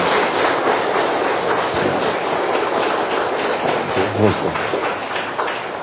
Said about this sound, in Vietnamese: Chúng ta dâng lên Chúa một tràng pháo tay thật là to, tạ ơn Chúa.